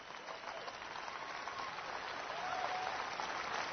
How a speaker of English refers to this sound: stand up and give God a hand clap.